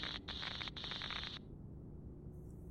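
Harsh radio static from solar interference crackles in three quick bursts with a high, buzzing edge, then drops away to a low, steady hiss. No one speaks.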